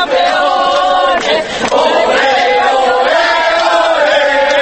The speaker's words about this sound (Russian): «Чемпионы, чемпионы, оле, оле, оле!» выкрикивали испанцы свое традиционное приветствие спортсменам-победителям.